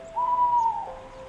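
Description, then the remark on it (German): A female tawny owl gives a single clear, steady hoot lasting about half a second, trailing off slightly at the end, with no voices and only a faint low hum behind it. “Der rote Kobold seufzt und berichtet dich, dass der Vogel, der dort oben durch die Lüfte schwebt und nach Nahrung Ausschau hält, eine Eule ist. Genauer gesagt ein Waldkauzmädchen”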